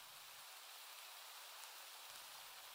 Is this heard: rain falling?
yes